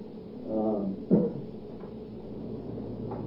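A door creaks open with a short rising groan, then a dull knock as it settles, heard fairly close in a quiet room with a low background hum.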